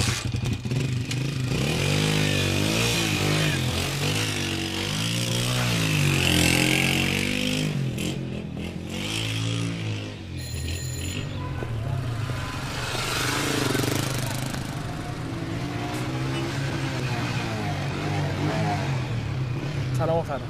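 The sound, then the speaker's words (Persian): A motorcycle engine runs steadily, its low rumble rising and falling with some revving, while people talk over it intermittently. “درست شد موتور؟ چطور؟ برم یه دور بزنم.”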